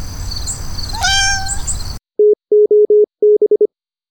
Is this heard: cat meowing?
yes